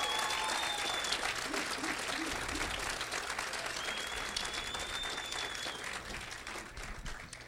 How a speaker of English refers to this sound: Let's all give Bob a big round of applause.